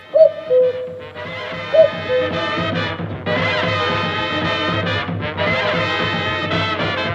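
cuckoo calling

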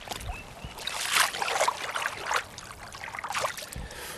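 river water flowing

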